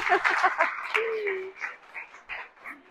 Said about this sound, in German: Richtig lecker. Ein Applaus für die Küche.